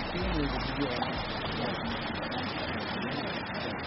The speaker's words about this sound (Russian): Теплицы работают не за счет электричества, а на газовых генераторах, от них и идет шум.